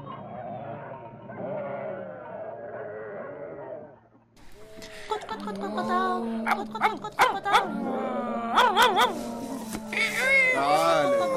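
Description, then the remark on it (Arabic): Several sharp barks ring out in a burst from a dog guarding a farm, mixed with bleating farm animals, after an opening stretch of drawn-out voiced animal calls. “كان يعيش في المزرعة عدد من الحيوانات، وكان هناك كلب يحرس المزرعة.”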